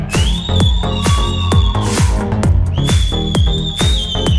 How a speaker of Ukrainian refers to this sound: Одні хлопці свистять. Так не годиться.